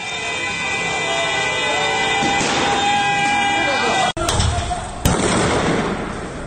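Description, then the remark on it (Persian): Two sharp, loud gunshots crack about a second apart, fired directly at protesters by security forces in Sardasht and recorded on a citizen's camera, cutting through a dense, steady din of outdoor noise and voices. “در سردشت دوربین یکی از شهروندان لحظه شلیک مستقیم گلوله توسط نیروهای امنیتی به سوی معترضان را ثبت کرد.”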